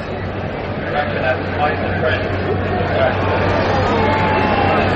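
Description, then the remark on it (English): A steady, dense murmur of a large outdoor crowd at a horse race, many voices blending into continuous babble with a low constant hum underneath, no single speaker standing out. “A little nervous with this big crowd.”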